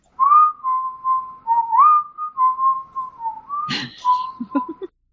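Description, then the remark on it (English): Someone whistles, imitating a sound effect: a long wavering tone that slides up and down, broken near the end by a short noisy burst and a few quick chirps. “trying to whistle this”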